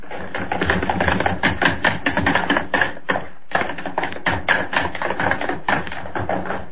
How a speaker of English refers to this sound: I want running footsteps, all three of you, across the studio floor, up the stair steps. You stomp and run back down.